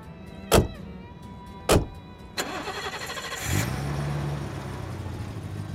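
Two sharp thuds like car doors shutting, then the engine of a big BMW cranks, catches and settles into a steady hum that carries on as the car drives off from a station car park.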